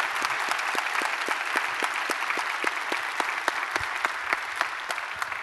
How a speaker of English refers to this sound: So we personally are grateful for those that are active and retired. And so would you help me by applause just welcome those that are joining us right now. Military, thank you.